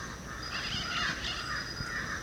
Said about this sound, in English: There's a crow close to us and a black-billed parrot overhead.